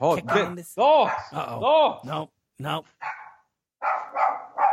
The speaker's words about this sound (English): Dogs! Stop it. These dogs are screaming. Oh my goodness gracious. These dogs have questions. The hounds. The hounds have been unleashed. Oh, they're so tiny.